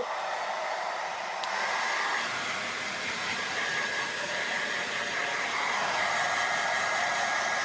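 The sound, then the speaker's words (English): A hairdryer runs on medium heat, blowing steadily with a constant loud rush of air and a faint high whine running through it, no voices, for the whole stretch. “I assume this is Willie's hairdryer, is it? Yeah, it's Willie's. And this is it. It's kind of on a medium heat.”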